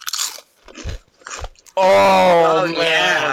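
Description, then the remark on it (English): Three crisp crunches of someone biting into garlic-flavored Doritos corn chips, followed by a loud burst of vocal reaction that drowns out the chewing. “All right, are you ready to crunch? Oh, I'm ready to crunch.”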